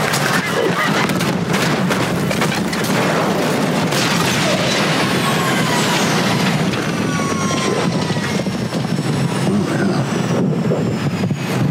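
A flock of geese honks loudly and continuously as they strike a plane, over a dense, steady roar like jet engine noise, with no pauses throughout.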